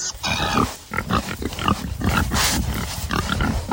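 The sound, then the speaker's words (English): Several hogs on a farm grunt and oink, a busy overlapping chorus of short snorts and squeals with farmyard noise around them and no one speaking. “And one more time, let's hear those happy, healthy hogs.”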